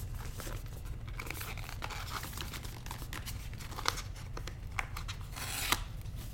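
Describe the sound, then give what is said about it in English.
Packaging for a white silicone phone case is opened: crinkling plastic and paper tearing, with a few sharp clicks and snaps over a steady low hum, and no talking. “I've got the boxes right here, so let's go ahead and let's open up the case first, because I like to, when I take a phone out, I like to immediately put it in a case.”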